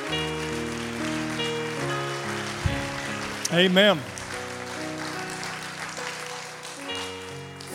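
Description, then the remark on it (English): An audience at Calvary Gospel Church claps steadily in praise of the Lord, a dense, continuous patter over sustained keyboard chords, with a single voice calling out briefly in the middle. “Let's give the Lord a big, big hand clap of praise at Calvary Gospel Church.”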